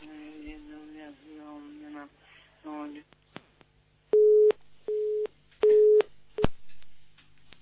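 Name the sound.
telephone busy signal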